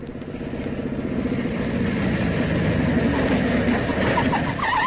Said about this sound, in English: I was just starting to search his pockets when I heard a motorcycle roaring along the road.